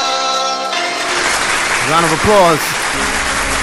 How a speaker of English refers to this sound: Round of applause.